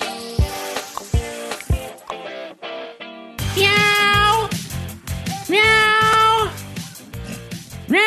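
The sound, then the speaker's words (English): Over a bouncy music bed, a voice does two long, drawn-out imitation cat meows, loud, with the pitch rising and wavering. “That's what I was saying in cat speak.”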